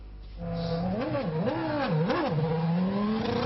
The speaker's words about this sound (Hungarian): Az autóversenyt népszerűsítő bemutató miatt lezárták a belvárost. Volt ugyanis olyan pillanat, amikor 250 km/h száguldoztak az autók.